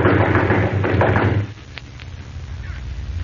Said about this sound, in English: I'll bang on the door.